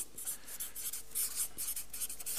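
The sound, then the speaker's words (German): A pen scratches across paper in short, quick strokes as someone jots down keywords, a dry scribbling that keeps going without pause, with no voices over it. “die Stifte geben den Geist auf.”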